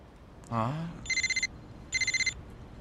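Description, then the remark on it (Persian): A mobile phone rings in two short bursts of rapid, trilling electronic tones, clear, with a brief vocal sound just before the first ring. “باور نکردنیه، ولی به ما گفت موبایلاتونو خاموش کنین.”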